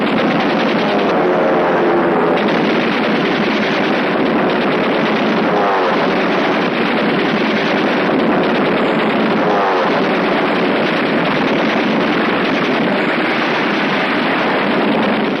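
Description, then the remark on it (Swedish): Loud, unbroken rattle of machine gun fire from German aircraft attacking advancing Finnish troops, a dense harsh clatter with a droning engine tone woven through it, continuing without pause and with no voices. “Tyska flygplan anfaller de framryckande finnarna med kulsprut i eld och striden tilltar i ursinne.”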